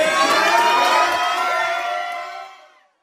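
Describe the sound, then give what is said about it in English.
A room full of people bursts into loud, sustained cheering and shouting after a man announces "It's Dallas," a dense wall of voices that holds steady for over two seconds before quickly fading out. “I thought he was on the phone and he goes, "It's Dallas," and the whole room explodes.”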